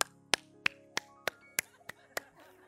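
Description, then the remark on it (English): A steady run of about eight sharp, crisp hand claps by a woman during worship, evenly paced roughly three per second, over a faint sustained background hum. “Then she claps like this.”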